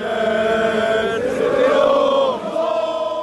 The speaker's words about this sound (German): Vor dem Spiel schreien die Fans ein letztes Mal ihre Hymne, die an die Arbeiterherkunft des Vereins erinnert.